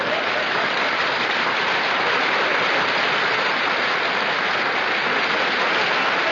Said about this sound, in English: Now, wait a minute. Don't applaud, please. If you like it, just nod. That's all I want.